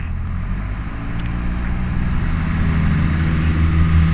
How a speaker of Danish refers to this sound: hvad laver du i en gammel flyvemaskine?